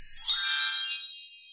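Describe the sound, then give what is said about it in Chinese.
A single bright, high-pitched chime dings once to signal turning to the next page of a children's read-along story. Its shimmering tones ring out and fade away over about a second with no talking. “这个声音，要翻到下一页哦。”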